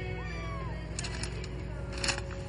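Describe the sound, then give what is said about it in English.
A kitten in a grocery store meows in a short, rising-then-falling cry over a steady low hum and background murmur, followed by a few brief bright clicks and rustles. “Did you bring a cat into the grocery store?”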